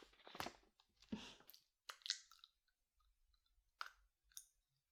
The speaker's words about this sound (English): I know I'm not supposed to eat in your classroom, but it's just a quick snack.